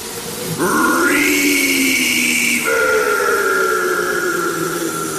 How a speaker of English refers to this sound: I'll let you play with the reverb! Listen to all this reverb!